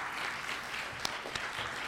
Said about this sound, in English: Would you stand and give her a round of applause for her service to Christ?